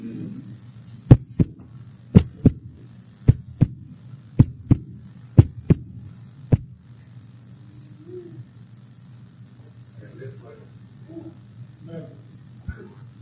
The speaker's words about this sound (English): One breath between me and death. That's between. And one heartbeat.